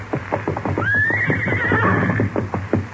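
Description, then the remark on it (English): A horse, Silver, whinnies with a rising, wavering high-pitched cry lasting over a second while being saddled up, as steady hooves clip-clop rhythmically underneath throughout. “Steady, big fellow, while I saddle you up.”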